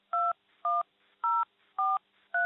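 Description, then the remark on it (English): Five touch-tone telephone keypad beeps dialed at a steady, even pace, each a short, clear two-pitched electronic tone with brief silences between, as a 5-digit zip code for Ellicott City, Maryland is entered. No voices. “Using the touch tone keypad on your telephone, please enter your 5-digit zip code.”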